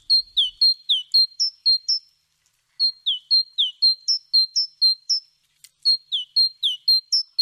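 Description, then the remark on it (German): A great tit sings its bright, two-note phrase over and over in quick rhythmic runs, clear, with brief pauses between three bursts and no voices present. “Dabei wurde die Kohlmeise mit Abstand am häufigsten gesichtet. Ihren Gesang konnten sie übrigens gerade hören.”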